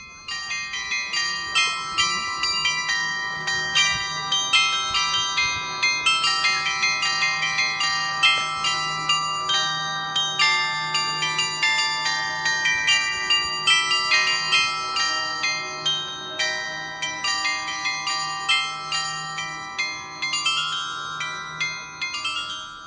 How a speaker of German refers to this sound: Hier sieht man Wohn- und Geschäftshäuser aus dem 19. Jahrhundert, wie das Haus der Unternehmensfamilie Brose, an dessen Fassade viermal täglich ein Glockenspiel erklingt.